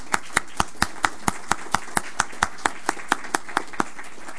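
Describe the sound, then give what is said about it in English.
Steady, evenly spaced hand claps applauding an attorney, about eighteen sharp crisp strikes in a brisk regular rhythm, with no voices over them. “So I just want to give Bill a round of applause for that.”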